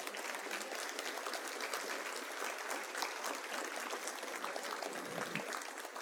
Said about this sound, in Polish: Drodzy państwo, i wielkie brawa